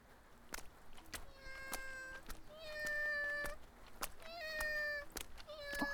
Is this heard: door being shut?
no